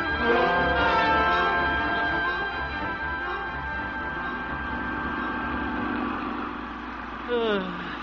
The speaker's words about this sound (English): What's that? Old man Walker and his tractor up there, taking up the whole street.